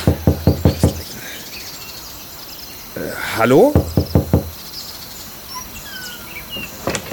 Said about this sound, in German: So, muss ich jetzt klopfen oder gehen wir einfach rein? Ja, geh doch einfach rein. Wir werden ja erwartet. Ich denke auch, also. Ach, wir sind noch gut erzogen. Ich klopfe an.